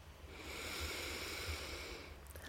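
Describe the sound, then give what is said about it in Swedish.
A slow, steady intake of breath through the nose, airy, rising gently in a single continuous draw lasting a couple of seconds, with no talking. “Andas in.”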